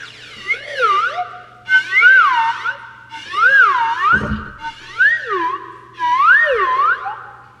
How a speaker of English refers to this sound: That is a new member of the Todd Glass Show. It's called Mr. Happy, and this is a slide whistle